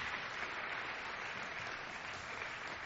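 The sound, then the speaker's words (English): A church audience at a morning service claps steadily and continuously as a clap offering to the Lord, a dense, even wash of many hands with no pauses and no voices standing out, holding the same loudness throughout. “I feel like we need to give the Lord a clap offering this morning for the work he's been doing.”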